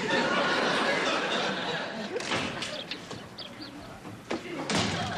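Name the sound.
door opening and closing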